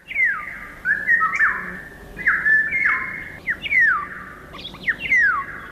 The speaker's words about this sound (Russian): Птичьи голоса в городах пытаются пробиться к людям сквозь шум автомобилей и бывают слышны здесь совсем ранним утром.